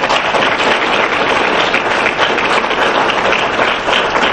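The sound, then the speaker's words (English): A room full of people applauds steadily, a dense wash of clapping that stays loud and even for several seconds without any voices rising above it. “Let's give Carol a hand of applause.”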